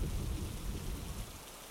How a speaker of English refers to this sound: What are you staring at? Never seen someone freak out over a thunderclap?